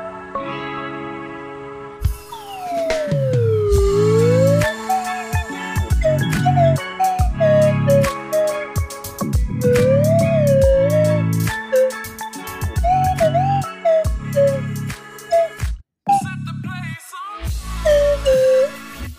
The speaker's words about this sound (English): So I've been thinking that if you're going to continue to slide whistle, over the intro, mm-hmm.